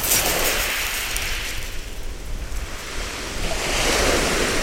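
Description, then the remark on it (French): Ocean waves break and wash onto a beach in a steady, broad roar, swelling at the start and again near the end, with some wind buffeting the microphone and no voices. “Elle a un peu peur des vagues. Elle fonce dedans et puis hop! Dès que la vague monte, elle fait demi-tour.”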